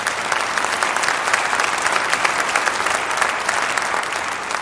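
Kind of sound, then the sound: crowd, audience applause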